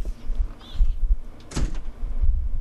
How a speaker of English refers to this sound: Oops! There I did. Yes. I slammed my way out.